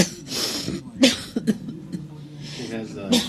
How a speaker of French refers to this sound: Every time she talks too much, there's a cough that fits. Chaque fois qu'elle parle trop, après il y a la toux qui revient.